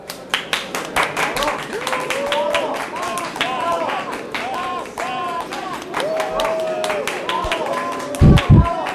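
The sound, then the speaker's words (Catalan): An audience breaks into steady applause for a youth group from La Massana receiving a prize for their multidisciplinary audiovisual work. Dense clapping continues for several seconds, with cheers and excited voices rising over it and a couple of louder thumps near the end. “Joves de la Massana, un aplaudiment!”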